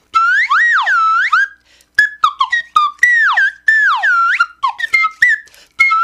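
A slide whistle with a metal slide and a plastic body plays loud swooping notes, pitch gliding up and down in a run of quick slides and short chirps, with a brief pause partway through and no one talking.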